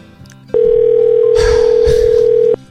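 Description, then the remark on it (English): A loud, steady telephone dial tone hums for about two seconds, with faint rustling noise partway through, before cutting off abruptly, as a call is placed using the YMCA's phone number as caller ID. “I'm using the YMCA's phone number as my caller ID.”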